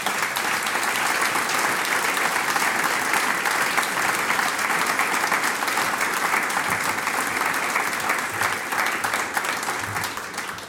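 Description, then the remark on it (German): Sustained applause from a sizable audience for the Gesangsverein Burger singing club at a Christmas programme, a steady dense clatter of many hands clapping at even loudness for about ten seconds, tapering slightly at the very end. “Applaus für euch.”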